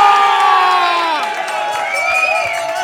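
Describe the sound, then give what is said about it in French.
A live audience at an evening TV game show cheers and shouts continuously, loud and dense, with high excited voices and whoops rising and falling over a steady roar of applause-like noise. “Ambiance juste incroyable ce soir. On va laisser le public se reposer un peu”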